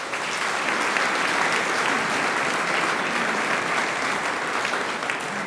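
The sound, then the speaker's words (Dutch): Sustained applause from an audience for the five-member trombone band, a dense steady clatter of many hands clapping at an even loudness for several seconds, with no voices standing out. “Maar wij gaan klappen voor ze alle 5.”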